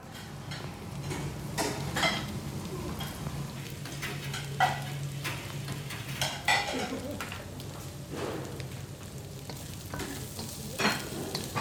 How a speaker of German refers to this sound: Das Geschirr klappert, es raschelt, es dampft. Wir sind heute in der Truppenküche in der Julius-Leber-Kaserne in Berlin. Und zwar wie ich mittendrin.